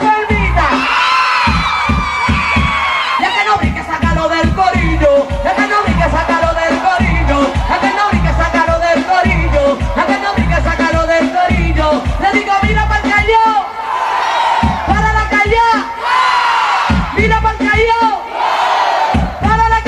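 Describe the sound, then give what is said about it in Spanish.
A large crowd at a reggae concert shouts and cheers loudly and continuously, with scattered whoops rising above the roar and a steady rhythmic pulse underneath throughout. “Que griten todos los enfermos, y que griten todos los enfermos, y que griten todos los enfermos.”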